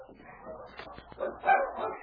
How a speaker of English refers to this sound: Oh, those dogs. What's the matter? There's only one answer. When they bark like that, they are fighting.